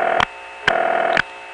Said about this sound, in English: There was some MF and other crosstalk there that was unrelated to our phone call.